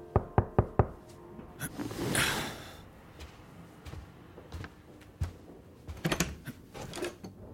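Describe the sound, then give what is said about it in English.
Four quick, sharp knocks on a door open the scene, followed by a brief rushing swish and scattered clicks and thumps of movement. No voices are heard. “When somebody knocked at the door.”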